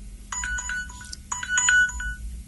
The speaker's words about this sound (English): Timer went off. Wow, I didn't know my powers were that loud. I thought only I could hear them.